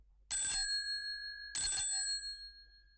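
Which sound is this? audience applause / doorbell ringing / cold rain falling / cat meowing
doorbell ringing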